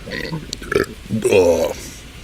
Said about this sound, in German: Oh Gott, Geräusche. Hört ihr eigentlich durch das Mikro auch die Geräusche, die so in meinem Bauch vom Innen kommen oder nur, was ich so von außen rein rülpse? Boah, Hilfe, das war nicht gut.